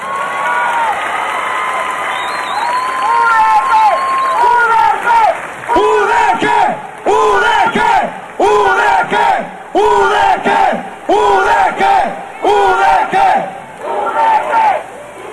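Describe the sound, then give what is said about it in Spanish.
A large crowd roars and cheers loudly in applause for a university, then breaks into a steady rhythmic chant, voices rising in repeated bursts with clapping and noise underneath. “A esta universidad se merece un aplauso, por favor.”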